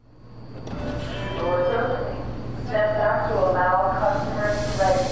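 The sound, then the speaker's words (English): Steady rumble and hum of a metro train in motion, riding into Washington, D.C., with a low drone, hissing noise and faint metallic squeals, while muffled voices murmur in the carriage. “We jump on the metro for D.C. ahead of a busy day.”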